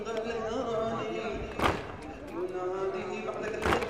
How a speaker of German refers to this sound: In ritueller Trauer um die vor 1400 Jahren verlorene Schlacht von Karbala und die Tötung ihres Hoffnungsträgers Hussein klopfen sich die jungen Männer immer wieder auf die Brust